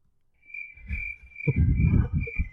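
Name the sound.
crickets chirping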